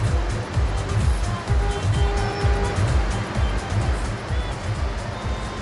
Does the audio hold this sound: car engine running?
yes